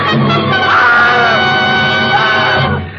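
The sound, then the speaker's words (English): A woman throws up her hands and shrieks in one long, piercing, sustained cry lasting a few seconds, loud, before it trails off at the end. “Then she threw up her hands and shrieked.”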